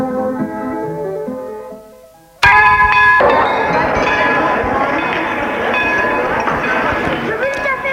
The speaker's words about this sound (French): La sonnerie a retenti. Les élèves rentrent en étude.